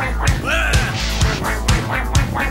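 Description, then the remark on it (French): A duck quacks about five times in quick, fairly even succession, loud, with no one talking over it. “Coin, coin, coin, les chercheurs s'intéressent donc aux canards sur les baignoires.”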